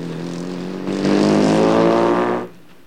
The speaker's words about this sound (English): He drives away, first reaching over and pressing a button to shut the passenger door.